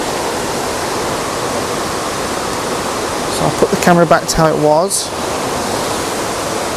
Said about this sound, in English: Okay, this log. This log I'm going to photograph from about the same spot as I'm in now because there's some very swirly water in the foreground which I want to use.